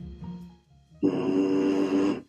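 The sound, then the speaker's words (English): Lips buzz a single sustained low note into a tuba mouthpiece, a loud, raspy, steady tone lasting about a second after a soft rumbling lead-in. “So I'm going to buzz a note.”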